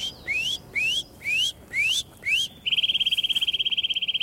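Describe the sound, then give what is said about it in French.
A Eurasian nuthatch whistles five clear rising notes, then breaks into a rapid, even trill of repeated piping notes, loud against faint outdoor background, along the Dordogne valley in France during the breeding season. “donc une citelle vous siffle, c'est ça?”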